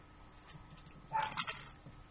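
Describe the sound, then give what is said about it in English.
Dogs give a brief flurry of yips, barks and a thin whine in the middle of a quiet stretch, fairly soft, with no one talking. “Aren't they the cutest dogs in the world?”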